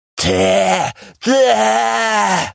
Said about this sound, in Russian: Удун завизжал от боли.